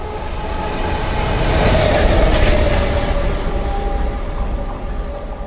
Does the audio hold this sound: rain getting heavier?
no